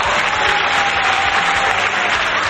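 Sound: applause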